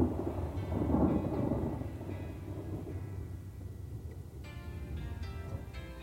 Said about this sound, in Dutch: De regen druilt langs de veranda.